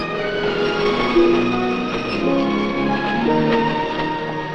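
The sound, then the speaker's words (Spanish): The slow Salinas train rolls past as carts of lettuce approach workers, with a steady rumble layered with sustained metallic whines and hums that shift slightly in pitch as it goes by. No one speaks. “Otras carretas de lechugas se aproximan a los trabajadores mientras pasa el lento tren de Salinas.”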